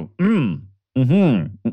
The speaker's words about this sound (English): Sorry, I gotta clear my throat. Try that again.